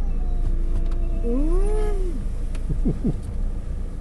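A single drawn-out cat meow rises and falls over a low background rumble, followed by a couple of short, chirpy cat sounds.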